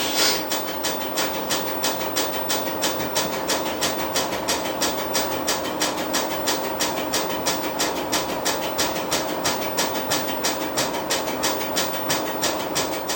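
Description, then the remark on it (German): A data cassette drive winds the tape back and forth over a damaged data block on an old cassette, a steady mechanical whir with fast, evenly spaced clicking that keeps up a regular rhythm throughout, fairly loud and with no voices. “wenn er immer vor- und zurückfährt, dann kriegt man oben auch die 12, das heißt, dann ist ein kaputter Block mit dabei.”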